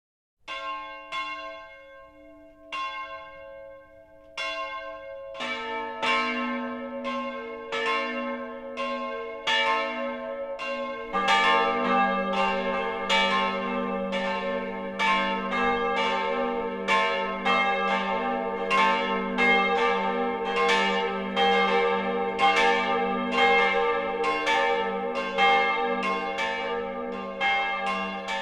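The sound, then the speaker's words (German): The 12 o'clock midday peal of the three bells of the Protestant church of St. Helena in Großensee, Middle Franconia, Germany, at the entrance to Franconian Switzerland, with no voices. A single bell tolls slowly at first, a second joins, then a third, building into a dense, steady, resonant clangor that carries on loudly. “Das Mittagsläuten kommt heute von der evangelischen Kirche St. Helena im mittelfränkischen Großensee am Eingang zur Fränkischen Schweiz.”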